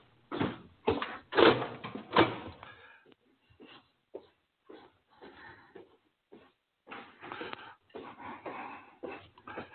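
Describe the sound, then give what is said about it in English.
A door is opened with a few loud clattering knocks early on, followed by scattered softer bumps and shuffling handling noises with quiet gaps between them. “Let me go open the door for her.”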